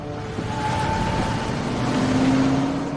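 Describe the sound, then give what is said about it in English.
A deputy's truck engine starts up and roars in a steady, loud rumble that swells slightly as the truck peels out and pulls away, with no voices. “Marcus gets into the deputy's truck and starts it up. Hearing the engine start, Henry runs outside just in time to see Marcus peel out.”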